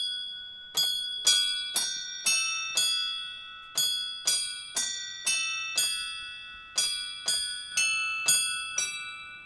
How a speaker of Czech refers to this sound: Vy se ozýváte i jiným hlasem prostřednictvím zvonku. Předpokládám, že to je vaše dílo. Teď nám do toho cinkla naše zvonkohra deštenská, která stojí před ateliérem. Ano, každou celou hodinu hraje i písničku.